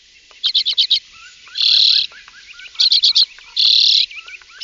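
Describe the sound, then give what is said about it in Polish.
A common redpoll calls: quick bursts of dry, metallic chattering notes alternate twice with longer buzzy, wheezing trills, with softer twitters in between and no voices. “Jak wygląda taka czeczotka?”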